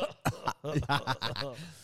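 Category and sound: human body sound, cough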